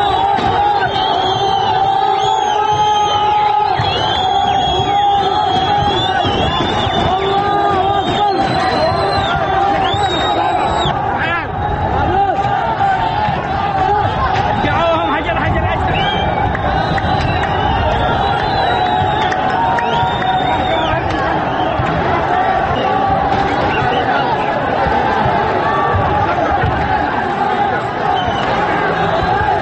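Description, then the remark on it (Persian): A large crowd of protesters attacking the US embassy in Sanaa, Yemen, shouts and yells continuously, loud and dense, with overlapping voices, whoops and bellows forming a steady roar throughout. “روز پنجشنبه اعتراضگران به سفارت آمریکا در پایتخت یمن شهر صنعا حمله کردند.”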